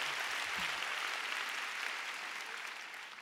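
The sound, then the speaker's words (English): A crowd applauds steadily, a dense wash of many hands clapping at once with no clear rhythm, holding even for a few seconds before easing slightly at the end; the clapping follows a preacher's call to clap like they really believe it. “Oh, come on, you want to clap? Clap like you really believe it.”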